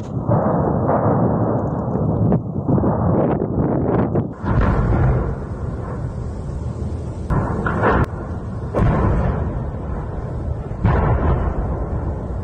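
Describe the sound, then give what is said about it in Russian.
Repeated explosions at fuel tanks and an ammunition depot in the city of Berdyansk boom at irregular intervals over a continuous heavy roar and rumble, with several sharp cracking bursts standing out; loud throughout, with no voices. “На видео слышны многочисленные взрывы.”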